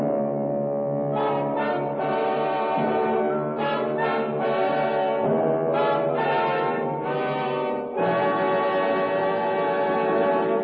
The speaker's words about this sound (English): listening to the foghorn and the beat of the ship's engines, when... Well, I couldn't see a thing. I ran in the direction of the sound.